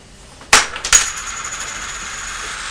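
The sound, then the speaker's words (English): Two metallic clinks land about half a second apart, as coins drop through a slot and strike something hard, followed by a bright ringing tone that lingers and slowly fades. No one speaks. “There are lots of pennies, smaller coins than these. They probably would go through the slots, but Mummy's put those in a safe place because I thought they were a little bit too small for me.”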